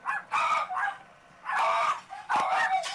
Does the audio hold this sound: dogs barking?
yes